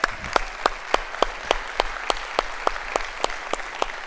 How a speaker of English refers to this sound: I've been thinking on these things. You can applaud that.